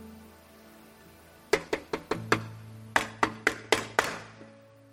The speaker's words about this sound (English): Then there's a knock at the door.